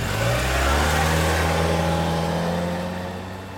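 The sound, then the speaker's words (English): A car engine revs hard and roars with steady low harmonics as a woman drives away as fast as she can, then fades slightly as the vehicle pulls away. No voices are present. “She drove away as fast as she could.”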